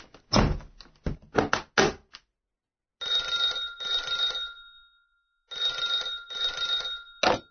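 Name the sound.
telephone ringing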